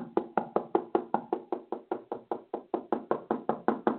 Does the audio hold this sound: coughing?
no